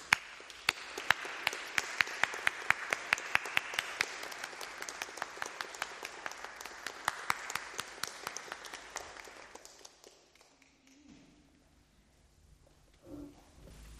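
A crowd applauds steadily for about ten seconds, dense clapping with a few sharper claps standing out, then it thins and fades into quiet room noise with a faint shuffle.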